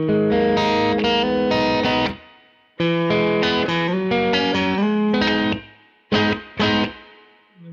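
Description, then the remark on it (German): A demo of a heavy reverb preset applied on top of a distorted, guitar-like instrument: bursts of strummed chords that ring out into long, washy decaying tails, then a few short stabs at the end. “Und der Reverb ist halt dann schon ein richtiger Hall dann nochmal da oben drauf.”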